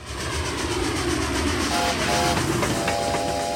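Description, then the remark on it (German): A train rumbles steadily with rolling rail noise, then a horn sounds in sustained tones partway through, loud, with no voices. “Das ist der Corona-Zug, um hier vielleicht mit einem Bild zu arbeiten.”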